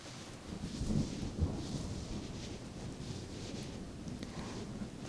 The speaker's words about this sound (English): I'll take my mind off the rain. And the scary, scary thunder.